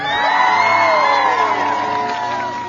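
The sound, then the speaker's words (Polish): A crowd bursts into loud cheering, with many overlapping voices whooping and shouting over a steady wash of clapping, sustained at full volume for a few seconds, greeting the hosts of the gathering, the Sanctuary of Our Lady in Nowa Osuchowa. “Brawa!”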